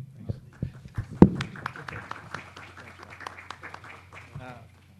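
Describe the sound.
A round of applause from a small group, with irregular, crisp hand claps continuing for several seconds, loudest near the start, while voices murmur underneath.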